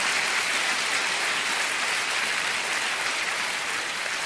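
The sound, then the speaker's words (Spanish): An audience breaks into sustained applause for God, a dense, even wash of many hands clapping at steady loudness for several seconds, with no voices over it. “Es más, denle un aplauso a Dios porque lo merece.”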